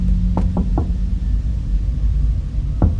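impact, knocking on a door

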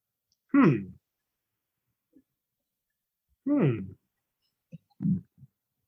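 human body sound, burp

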